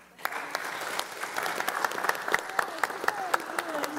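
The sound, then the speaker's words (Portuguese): An audience in a legislative chamber session broadcast live on TV Alesc breaks into steady applause, many hands clapping in a dense, crackling patter that starts abruptly and holds at a fairly even loudness with a few sharper claps standing out. “Senhor presidente, aplaude.”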